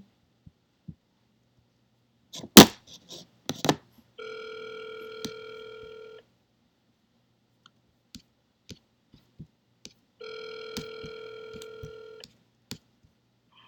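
A telephone rings twice, each a steady two-second burst of bright, layered electronic tones separated by a long pause, with scattered clicks and a few sharp knocks before the first ring.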